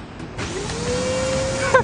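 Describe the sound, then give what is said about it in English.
A vacuum cleaner switches on and roars steadily on a front lawn, its motor whine rising to a sustained hum over a broad rushing noise, fairly loud, with no one talking. “No, Neanderthal Dad, you can't vacuum the front lawn.”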